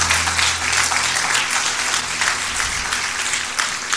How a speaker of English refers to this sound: Clap those hands and give him the glory.